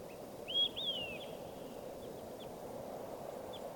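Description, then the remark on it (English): A recorded call of bird number 585: two bright, high whistled chirps sweeping downward early on, followed by a few faint, brief chirps over a steady low rumble of background noise. No one speaks. “Start recording bird 585.”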